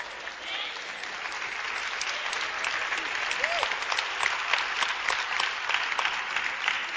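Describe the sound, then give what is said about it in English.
People listening to a preacher clap steadily for several seconds, most of the clapping coming from one side, the dense patter of many hands forming a continuous wash of applause with no one speaking over it. “I think most of that clap came from this side.”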